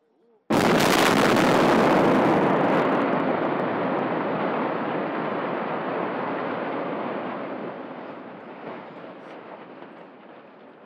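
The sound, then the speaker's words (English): A building demolition implosion: a sudden sharp blast gives way to a long, heavy roar of collapsing debris that rumbles on for about ten seconds, fading only slightly, with no voices. “An implosion crew far down below had already sounded the one-minute warning with an air horn.”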